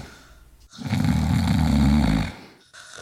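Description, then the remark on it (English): A single long, deep rumbling snore, loud, of a dinosaur sleeping, rising and fading over about two seconds between softer breathy sounds. No talking. “The party slowed down as the day was no more, till all you can hear are dinosaur snores.”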